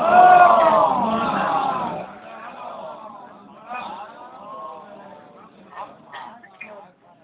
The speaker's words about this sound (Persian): برای تحقق اهداف والای قرآن صلواتی جلی عنایت کنید.